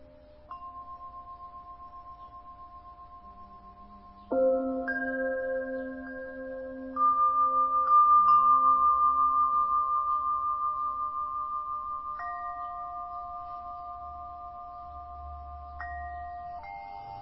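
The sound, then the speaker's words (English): Meditation bells are struck several times at uneven intervals, each pure, sustained tone ringing out and overlapping the last in a slowly fading shimmer. No one speaks. “Notice again how the bells and the sensations are an object that you are looking at.”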